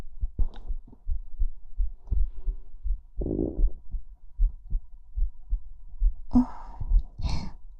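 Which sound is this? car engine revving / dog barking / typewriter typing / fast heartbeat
fast heartbeat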